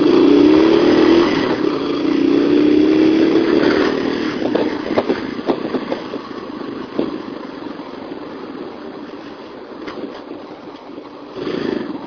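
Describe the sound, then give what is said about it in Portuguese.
A motorcycle engine revs loudly, its pitch climbing and falling, then settles into a rough idle amid the clatter and hum of busy city traffic in São Paulo, Brazil. “É foda o trânsito de São Paulo nesse ponto. A maioria dos motociclistas de verdade que usam a moto para trabalhar, como eu, como várias pessoas no meu serviço, ficam rezando por estatística.”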